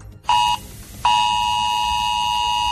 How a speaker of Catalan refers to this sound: És una implantació, això de les alertes dels telèfons mòbils, que en alguns llocs com Corea del Sud, en països asiàtics, està molt normalitzat. Aquí a Catalunya, els mòbils també estan preparats per rebre'ls. L'alarma sonarà així.